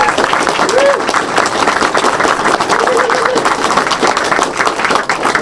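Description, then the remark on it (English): A large audience claps steadily, a dense, even roar of hands sustained for several seconds, with a few faint voices or whoops rising briefly through the noise, applauding a long-serving board member and former president. “Big hand of applause for this guy.”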